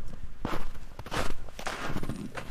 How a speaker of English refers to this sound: Crunch, crunch, crunch. His feet sank into the snow.